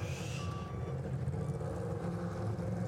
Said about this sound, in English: Ooh, that's not a good sound as that car has pulled out.